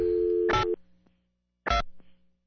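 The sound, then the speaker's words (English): A steady old-fashioned landline dial tone hums for under a second before a loud handset clunk cuts it off; a second heavy clunk and a few small clicks follow, fairly loud. “Old dial tune. Yeah, that's archaic. Proves it's not a cell phone, doesn't it?”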